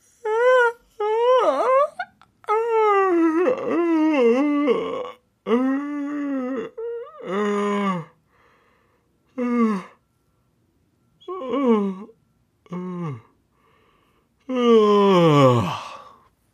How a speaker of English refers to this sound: That's a long yawn, guys. A long yawn.